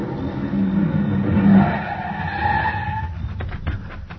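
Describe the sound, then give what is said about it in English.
A car engine roars close by, then tires squeal in a rising screech as the vehicle skids hard, ending with a few dull thumps as it comes to a stop. “The car was close now and moving fast.”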